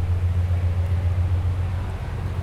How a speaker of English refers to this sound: The train sounds good. Yeah. It is a train.